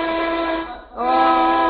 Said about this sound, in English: Oh, there goes the 12 o'clock whistle.